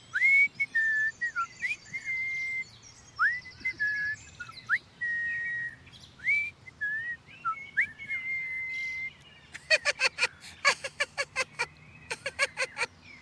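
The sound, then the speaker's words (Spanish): A child swinging on the branch of a young tree in a forest, laughing, whistles a cheerful tune of short, bright notes with quick upward slides, clear, followed by a burst of rapid chirping, clicking trills near the end. No one speaks. “Y el niño se mecía en su rama de un lado al otro, riéndose y silbando alegres tonadillas.”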